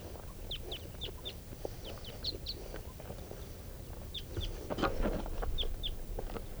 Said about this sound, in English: Coming back. There they go. Back to the tree grove where there are other birds. Well, those same wild birds are coming back, just flew over.